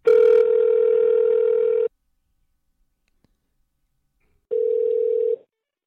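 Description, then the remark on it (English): A steady telephone dial tone hums loudly for about two seconds as a phone call is placed, cuts off into silence with a faint click, then a second shorter tone sounds near the end. No one speaks. “And so let's give Al a call right now.”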